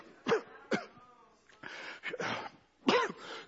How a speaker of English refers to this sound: Boy, so cough, I just can't get rid of it.